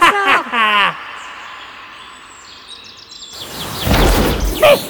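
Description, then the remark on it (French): A brief vocal flourish is followed by a quiet, shimmering pause, then a loud burst of crackling, thunderous noise erupts like a magical lightning strike and rumbles on to the end. “C'était un sacré éclair !”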